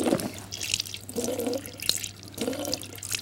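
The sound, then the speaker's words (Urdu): Water runs steadily from a tap during ablution (wudu), with splashing and dripping, broken by several short gurgling bursts as a mouth is rinsed, with a low hum underneath and no talking. “کلی کرنا واجب نہیں ہے، لیکن اگر کلی کی جائے تو بہتر ہے.”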